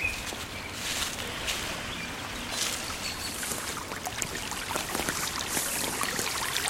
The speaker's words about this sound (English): When they get to the stream, Junie takes off her pack and climbs into the water.